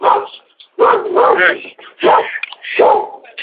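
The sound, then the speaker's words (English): A dog barks loudly at a homeowner's house during a visit by Apex sales reps, in a rapid, agitated series of harsh, drawn-out barks with only brief pauses between them. “That dog is crazy.”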